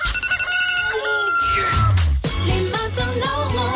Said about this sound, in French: Ça y est, le coq a chanté, il est 9h